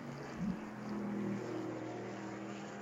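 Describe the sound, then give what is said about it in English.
A race car engine revs and pulls away from a pit stop after the refuelling nozzle comes out and the car settles off the air jack onto its wheels, a brief rising whine giving way to a steady droning hum that gradually thins out as it moves off. No one speaks. “Nozzle comes out, car gets rolling.”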